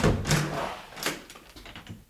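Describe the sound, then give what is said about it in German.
A door is opened, with a rattling clunk of the latch followed by a second sharper knock a moment later, then quiet rustling. “Ich kann mal gerade zur Tür gehen.”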